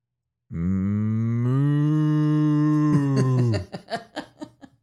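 A steer, a real bull kept at a studio, lets out one long, loud, low moo, steady and drawn out for about three seconds, then trails off into a quick series of short, breathy grunting pulses. Tape recorded.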